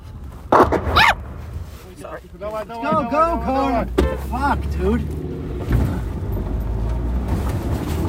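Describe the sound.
A car driven by a 28-year-old soldier accelerates hard, its engine roaring up and rumbling loudly underneath, while excited voices shout over it. A few sharp barking-like cries come at the start.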